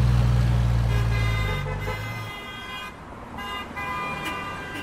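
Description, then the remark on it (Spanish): Busy road traffic with cars honking their horns, several overlapping toots and sustained blasts over a steady low engine rumble, loud. “¡Oh, Dios, este tráfico! ¡No me deja llegar al trabajo!”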